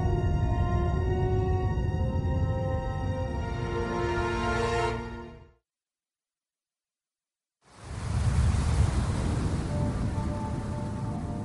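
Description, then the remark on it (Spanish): A sustained, droning tone fades into about two seconds of silence, then the steady, fairly loud rush and wash of ocean waves on a beach of the Panthalassa Ocean in the Ordovician period fills the rest, with no voices. “Esta es la playa del océano de Pantalasa, un mar que cubría todo el hemisferio norte de la Tierra en un periodo llamado Ordovícico.”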